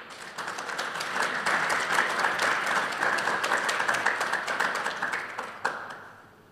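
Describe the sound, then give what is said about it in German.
An audience applauds steadily for two invited experts, many hands clapping in a dense, even patter that holds for several seconds before thinning out, with a few last claps at the end. No one speaks over it. “möchte ich natürlich die zwei Expertinnen und Experten zu mir bitten, die im Gegensatz zu mir total viel Ahnung von dem Thema haben und jetzt schon einen Applaus verdient haben.”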